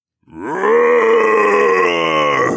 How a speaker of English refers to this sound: Something large roared really close by, and as notable as it was that the sound was definitely not any demon I'd ever heard before, I had no interest in seeing the beast it belonged to.